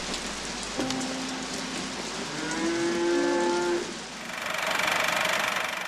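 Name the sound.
rain falling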